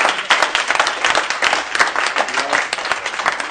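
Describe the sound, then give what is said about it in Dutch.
People applaud after a new council committee member is sworn in, many hands clapping in a dense, steady patter that stays fairly loud throughout without pausing. “En ja, applaus, ja.”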